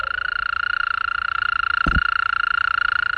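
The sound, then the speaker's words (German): A mole cricket's continuous, steady churring trill, played in an exhibit's insect-sound quiz, drones on without pause, loud, with one brief low thump partway through. “Und hier geht es von der Zikade über hier zum Beispiel die Maulwurfsgrille auch.”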